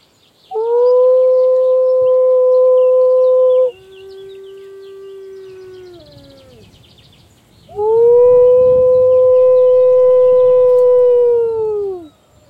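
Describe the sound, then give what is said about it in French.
A wolfdog, a hybrid animal about 40% dog and 60% wolf, howls in long, sustained tones: a loud first howl, a softer lower one that bends downward, then another strong rising-and-falling howl, heard alone. “Ce n'est pas le hurlement d'un loup, ni l'aboiement d'un chien, mais le chant hybride d'un animal hybride. 40% chien, 60% loup.”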